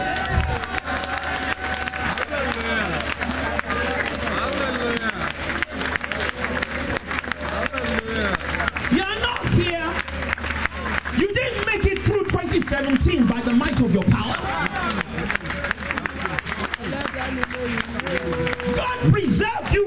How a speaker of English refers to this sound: Take the other hand up and give the Lord a clap.